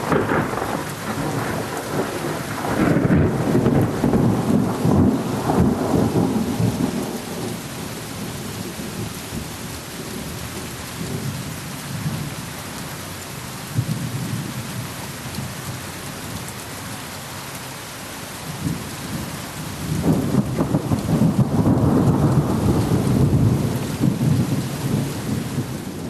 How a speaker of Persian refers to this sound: باز چی رفتین زیر بارون وایسادین؟ مگه بارون ندیدین؟